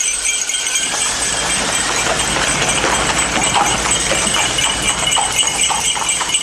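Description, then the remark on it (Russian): Chilled, restless horses, driven by a coachman holding the reins, pull a sleigh away at speed along a road, their rapid hoofbeats thudding in a steady rhythm over a constant rushing hiss. The sound stays loud throughout, with no voices. “Взял вожжи, и лошади полетели.”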